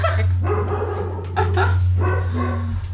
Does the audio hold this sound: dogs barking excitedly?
yes